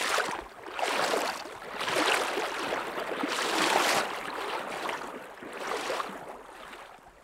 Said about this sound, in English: we slosh across to the other side. The rushing water squeezes the waders tight and cold against my legs, and I have to lean into the current to avoid toppling over.